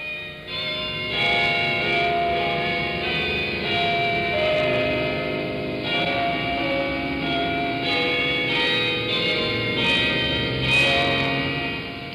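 Church bells ring on a Sunday, continuously, their overlapping tones swelling and blending into a dense, resonant wash that carries steadily for several seconds, with no voices present.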